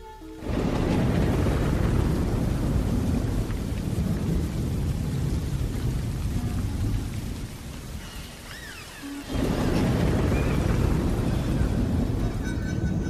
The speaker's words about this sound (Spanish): Pero un día, inesperadamente, mientras trabajábamos en la construcción de las bases de nuestra casa, empezó a llover tan fuerte que tuvimos que refugiarnos y detener la construcción.